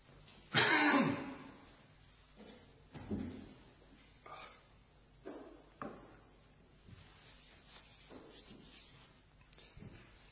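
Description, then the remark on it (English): A loud cough bursts out first, followed by a string of softer coughs and throat clearings spaced a second or two apart, with no talking in between. “And while I cough, you might care to turn to Matthew chapter 22.”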